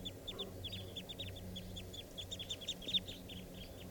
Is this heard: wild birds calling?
yes